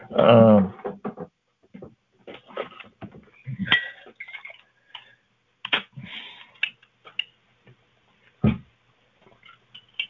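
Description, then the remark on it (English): A speaker pauses during a Bible talk to drink water: a brief vocal sound, then quiet sips, a few gulps and light clinks of a glass, with scattered small clicks and pauses between them. “I need to take a drink of water here.”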